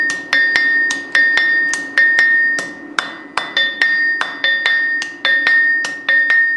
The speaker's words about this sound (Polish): Tak samo kowalowi jest lżej kuć, jak sobie przystukuje do rytmu młotkiem na kowadle.